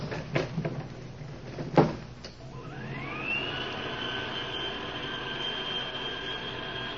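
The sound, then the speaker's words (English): A few sharp clanks and a heavy thud as an elevator door shuts, then a motor whines up in pitch and settles into a steady mechanical hum as the lift rises. “Get in the elevator.”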